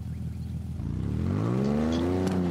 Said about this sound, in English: Except for the roar of the 4x4.